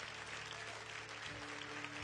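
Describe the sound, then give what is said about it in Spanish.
Sustained, dense applause for Jesus from a large audience at night, steady and loud throughout, with a low hum or tone underneath and a pitch shift in the background partway through. “Si alguien lo cree, de un aplauso fuerte a Jesús en esta noche.”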